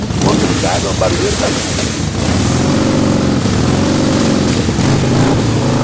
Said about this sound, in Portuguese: Então a gente bota as motos no púlpito, convida todos os motoclubes e os caras vêm do jeito que quiser, os estacionamentos da igreja é só pra moto e triciclo. E a gente começa o culto adorando o Senhor com o ronco das motos.